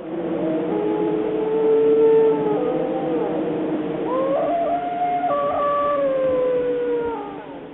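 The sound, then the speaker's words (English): Several wild dogs howl together in long, overlapping wavering tones that rise and fall, a steady chorus of drawn-out cries filling the whole recording with no talking. “And wild dogs.”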